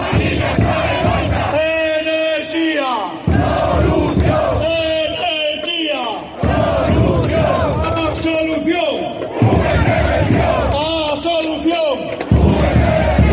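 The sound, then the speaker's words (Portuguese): A protest crowd of about 20,000 people in Madrid, backing Alcoa workers, chants slogans such as 'Madrid escucha, la Mariña está en lucha' and 'Alcoa se salva luchando' in loud, rhythmic bursts of massed voices, roughly four repeated phrases with brief dips between them, accompanied by banging or thumping. “Madrid escucha que la Mariña está en lucha, Alcoa está en lucha, Alcoa se salva luchando, o también Energía Solución, eran algunas de las máximas que se cantaban.”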